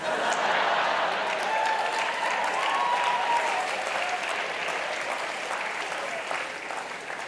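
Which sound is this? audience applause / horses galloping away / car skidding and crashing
audience applause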